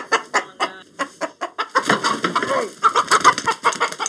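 A chicken clucks in quick, choppy bursts that build into a louder, agitated squawking run, fairly loud.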